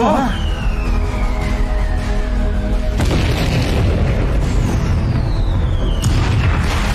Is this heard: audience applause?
no